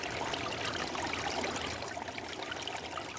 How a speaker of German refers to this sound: Weil sie das Wasser unter sich rauschen hörte, hatte sie ganz dolle Angst.